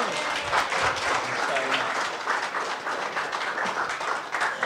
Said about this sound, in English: Oh, round of applause to my assistant.